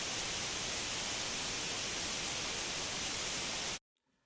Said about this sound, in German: wenn Ihr Gerät keinen Sender erwischt hat. Dann gibt es dieses brillante, helle, weiße Rauschen und diesen sehr unterhaltsamen Störton. Also ein Rauschen eben.